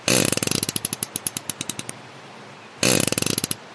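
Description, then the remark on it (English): A farting fish: a rapid, raspy train of clicking pulses that gradually slows and fades, followed after a brief pause by a second short burst. Fairly loud, with no voices. “And just in case you're terminally disappointed that you didn't hear what a farting fish sounds like, we've got the sound just for you.”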